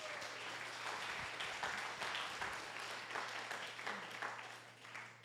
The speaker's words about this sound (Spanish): Dale un aplauso